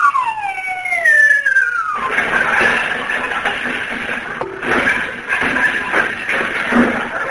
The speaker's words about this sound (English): Yeah, and I can hear him walking around on the roof. He's getting ready to come down the chimney.